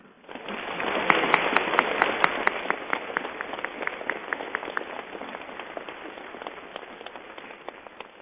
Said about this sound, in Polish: dzisiaj w sanktuarium Matki Bolesnej w Rybniku w Bielsku Białej, Hałcnowie, przeżywamy nasze regionalne spotkanie. Wszystkich słuchaczy na początku tego spotkania z radością płynącą z naszych serc przywitamy gorącymi oklaskami.